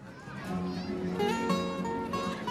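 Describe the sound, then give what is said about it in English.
Children's high-pitched voices chatter and call out as they run happily in the sunshine at a christening party in a garden, a steady lively babble of play with overlapping voices and no pauses. “Children run happily in the sunshine.”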